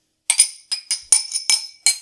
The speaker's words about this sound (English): I think it's time for us to clink some glass. Cheers.